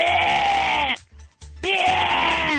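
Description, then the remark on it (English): A voice imitates an angry bird call with two long, loud, raspy screeches split by a brief pause, each harsh and wavering, almost like a bleat. “The next night, I heard this bird and it sounded kind of like this.”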